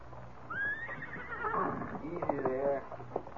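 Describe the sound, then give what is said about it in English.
A horse lets out a long, rising and wavering whinny, followed by a few scattered hoof clops and shuffling movement against a low background hum, as two men come from a cafe to get their horses and ready them to mount. “Me kneel down to take stone from Scout's hoof, and two men come from cafe to get horses.”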